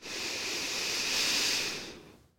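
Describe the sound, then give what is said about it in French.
A long, deep inhalation, a steady airy rush that swells for about two seconds and then fades out, with no talking. “Prends une profonde inspiration pour te redynamiser.”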